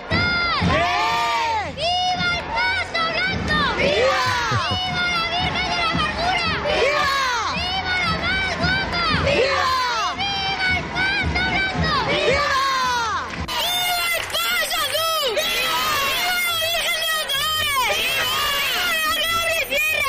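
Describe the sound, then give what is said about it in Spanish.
A large crowd at a Holy Week (Semana Santa) procession in Lorca shouts and cheers continuously, many voices overlapping in rising, wavering yells that stay loud throughout, with a brief surge of noisier cheering near the end. “La rivalidad en bueno, gritos”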